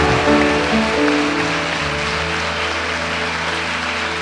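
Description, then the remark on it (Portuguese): A church audience applauding to welcome new members into the family of God, with steady, dense clapping that holds at an even loudness throughout, while low sustained musical tones play underneath. “Vamos aplaudir.”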